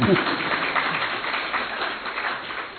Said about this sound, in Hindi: भले भले, अभी तो स्वागत सत्र है ना, भले ताली बजाओ।